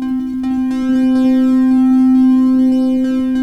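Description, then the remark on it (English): A loud, steady synthesizer tone with the resonance cranked up, giving a strongly resonant, ringing edge, held continuously for several seconds, with faint flickering clicks like pseudo Morse code and harmonics shimmering above it. “A little less resonance. And you can hear some pseudo Morse code. And then you crank it up.”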